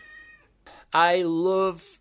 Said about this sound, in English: Sorry if I'm going quiet. I've just been interrupted by a cat